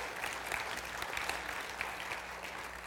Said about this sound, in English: That's awesome. You can clap for that, for Jesus.